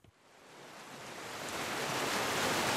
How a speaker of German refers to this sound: Erst sind es nur ein paar Rinnsale im orangen Staub, dann dünne Bäche in ausgetrockneten Betten, dann, nach ein paar Minuten, ein rauschender Fluss. Er sucht sich den Weg durch eine Landschaft, die jahrelang kaum einen Tropfen Wasser gesehen hat